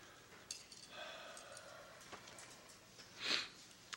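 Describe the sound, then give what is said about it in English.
Quiet, with a sharp, breathy nasal rush near the end as someone blows their nose during an allergy attack, preceded by faint clicks and soft rustling. No one speaks. “I know I'm blowing my nose and coughing and stuff up here, and I've just got a big allergy attack.”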